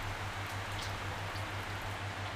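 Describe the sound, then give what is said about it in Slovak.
Steady, soft rainfall, recorded during a night's stay at a Buddhist temple in a forest, hisses evenly throughout, with faint scattered drips, while a low droning hum pulses gently underneath at a regular rhythm. No one speaks. “Pomôže nám k tomu aj zvuk dažďa, ktorý som nahral počas nocovania v lesnom buddhistickom chráme, a binaurálny beat v teta frekvenciách, ktoré ti budú nápomocné pri hlbokej relaxácii a REM spánku.”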